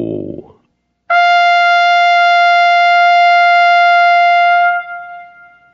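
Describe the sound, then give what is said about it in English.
A single long, loud trumpet note blown by Louis the Swan at a lake, held steady at a fairly high pitch for several seconds, rich and brassy, then fading away. A brief low rumble comes just before it. “Then he raised his trumpet to his mouth and blew a long ko.”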